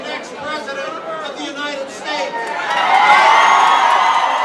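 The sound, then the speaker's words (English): Dense crowd chatter of rank-and-file Democrats jammed into Clyburn's fish fry, where six candidates shared a stage; many overlapping voices, steady and moderately loud, swelling into a louder wash of cheering and shouts toward the end. “The rank-and-file Democrats who jammed into the fish fry last night seem to agree with Richardson.”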